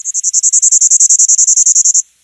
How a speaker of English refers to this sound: Some are extremely rare and perhaps extinct, like this Bachman's warbler, a former resident of the southeastern United States that hasn't been seen since 1988.